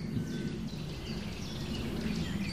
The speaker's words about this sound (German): Jetzt hören wir gerade den Kleiber sehr laut mit seinem chip chip chip chip chip chip chip chip chip chip chip chip